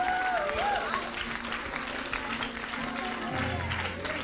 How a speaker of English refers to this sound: Give the Lord a hand clap tonight.